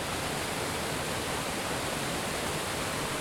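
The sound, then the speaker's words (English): The 25-foot Wildcat Falls cascades over several rock levels amid old-growth hemlock forest: a steady, full-bodied rush of falling water roars without a break, a dense hiss spread evenly from low rumble to bright spray, with no voices. “The 25-foot waterfall cascades over several levels.”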